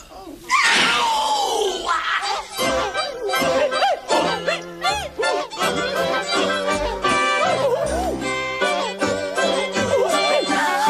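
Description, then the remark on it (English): Loud human screams and shrieks sound in quick succession at different pitches, strung together like notes of an instrument into a rough, chaotic melody that runs without pause. They come from a replica of the Torturetron, a twist on the cat piano using human beings instead of cats. “This is effectively a twist on the cat piano, but with human beings instead of cats as the sound-producing agents.”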